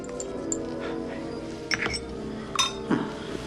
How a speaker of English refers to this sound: Stirring in solution. The professor takes a glass stirring rod from a jar and mixes the cream and powder.